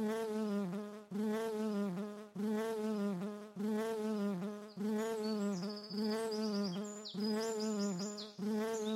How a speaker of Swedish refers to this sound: istället för en gök så hoppar det fram ett bi som säger sör, sör. Nu surrade det 8 gånger.